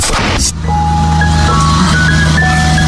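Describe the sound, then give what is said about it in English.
An ice cream truck, stopped out front of a house on a residential street, plays its jingle as a simple electronic melody, loud, over a steady low engine rumble, after a short burst of noise at the start. “Look, it's the ice cream truck.”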